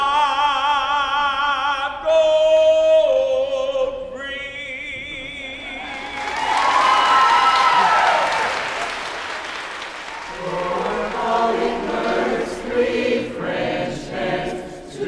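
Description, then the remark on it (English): A choir sings sustained harmonised notes of the carol 'The Twelve Days of Christmas', then an audience breaks into a loud burst of clapping and cheering for a soloist for several seconds before voices pick up again. “who works in the mailroom and always gets a big hand for his solo.”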